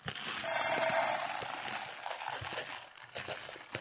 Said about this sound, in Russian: Вот давай представим себе, сейчас я насыплю немного гречки в кастрюлю, вот так, послушай.